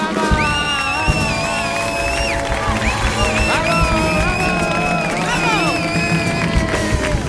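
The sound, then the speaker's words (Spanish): A large studio audience claps and cheers continuously, loud, with whoops and shouts rising over dense applause and music playing underneath, welcoming guest Paz de Alarcón onto the show at night. “Vamos a seguir aplaudiendo fuerte porque está con nosotros esta noche Paz de Alarcón.”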